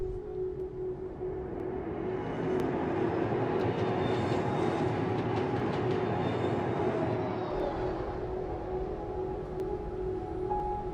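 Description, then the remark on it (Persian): A train rumbles steadily along the rails with a continuous low roar and faint metallic squeals and tonal whines layered on top, sustained and fairly loud throughout, with no talking. “باید سوار اون قطار میشدم.”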